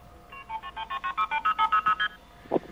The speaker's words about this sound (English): Oh, those are illegal tones. Those are MF tones. No. Aren't they illegal? You don't hear them anymore. That was simply the pledge phone number. Oh, did you have the KP and the start tone as well?